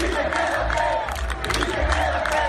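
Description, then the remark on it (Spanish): A large crowd of FC Porto fans celebrating the league title chants "Casillas, quédate" in unison, loud and sustained, the massed voices rising and falling in a steady rhythmic swell with no single voice standing out. “Y el Oporto ha celebrado el título de Liga con su afición, con gritos de Casillas, quédate.”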